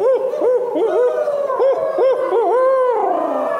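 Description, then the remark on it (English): A person imitates a barred owl, giving a quick series of rising-and-falling hooting notes in a strong voice, then ending with a long, drawn-out hoot that slides downward in pitch. “Yeah, give us a barred owl hoot.”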